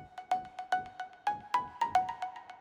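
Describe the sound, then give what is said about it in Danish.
A phone call ringing tone plays alone: a quick, steady series of bright electronic pulses with a faint sustained tone underneath, moderately loud, as a call is placed to a crop-production chief at Sønderjysk Landboforening who is out in the fields. “Som noget nyt i podcastserien Din Mark Lige Nu, så ringer vi ud til nogen, og i dag der ringer vi til planteavlschef”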